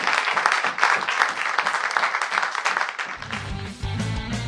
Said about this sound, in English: Big round of applause for Brad Biedemann-Burg.